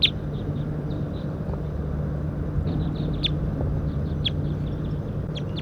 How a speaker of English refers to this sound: So recording the wild birds here now, and one is up in the pine tree tooping. It may be a new release.